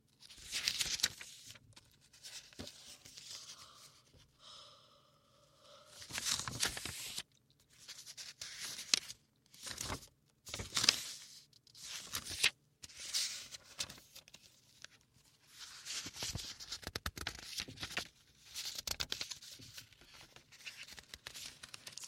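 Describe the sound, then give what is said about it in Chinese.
Quiet paper rustling as the pages of a small notebook are flipped, with soft scratchy bursts of writing in between, in irregular bursts with brief pauses. “像翻书写字的声音，也不用说了，这是个小本子。”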